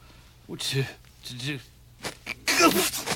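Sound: sneeze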